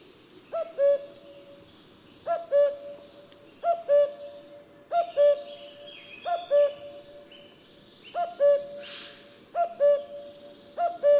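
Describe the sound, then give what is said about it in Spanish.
A common cuckoo calls its two-note cu-coo over and over at a steady pace, clear, with faint higher birdsong twittering in the background. “Pero para que todo el mundo sepa de qué hablamos y partamos de la misma base, vamos a pararnos a escuchar durante unos segundos el famoso canto del cuco.”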